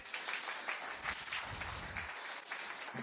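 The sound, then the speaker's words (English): A modest round of audience applause, a steady dense patter of many hands clapping at a fairly subdued level, with no voices over it. “Give them a standing ovation. Oh, it's a crouching ovation. A little applause.”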